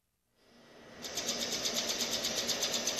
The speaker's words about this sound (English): A projector casts four images on a wall. It makes a clicking sound, and then the images spin as if they were reels on a slot machine. The piece, by artist Mark Salvatus, shows the gritty streets and graffiti of Manila.